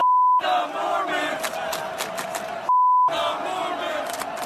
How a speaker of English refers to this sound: listen to how some fans at the University of Oregon this past weekend were chanting